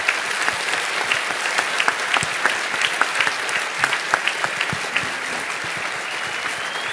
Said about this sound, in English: So how about a tremendous round of applause for these guys?